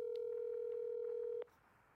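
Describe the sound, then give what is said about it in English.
A phone line tone, like a call ringing through, holds steady and low-pitched for over a second, then cuts off abruptly, leaving only faint hiss. Nobody speaks. “Hold on. I'm going to try calling her.”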